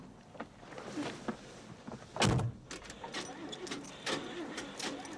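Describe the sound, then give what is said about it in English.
A car's driver's door shuts with a single heavy, low thump midway through, surrounded by softer clicks and handling noises over a steady low background hum, as a man steps to the driver's door of a car at a hospital. “He steps to the driver's door.”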